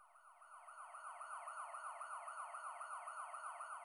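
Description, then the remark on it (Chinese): A police car siren wails at night in a fast, steady yelp, its pitch rising and falling rapidly over and over. It sounds loud and continuous, with no voices. “然而就在这时，一声急促密集而模糊的警铃声突兀地从夜色中传来。”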